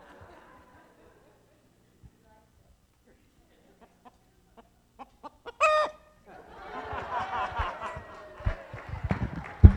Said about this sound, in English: The rooster crowed